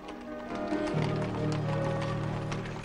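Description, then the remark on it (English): Steady, rhythmic clip-clop of horse hooves pulling a carriage, moderately loud, over a low rolling rumble that continues throughout. “Mozart and Susanna are cuddled up together in the back of a horse-drawn carriage.”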